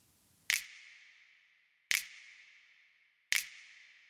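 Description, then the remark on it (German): Three crisp finger snaps, evenly spaced about a second and a half apart. Each is sent to a prepared reverb with no other plug-in on the channel, and trails off into a long, bright reverb tail that fades slowly before the next. No voices. “Und plötzlich klingt unser einsamer Schnipser so.”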